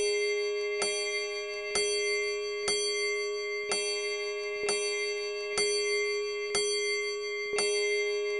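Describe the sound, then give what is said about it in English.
A large bell strikes twelve at midnight, tolling at a slow, steady pace, each ringing strike overlapping the lingering hum of the last, with no voices present. “The bell struck 12, as the last stroke of midnight ceased to vibrate.”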